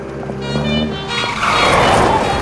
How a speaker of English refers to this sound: A bright green car pulls up.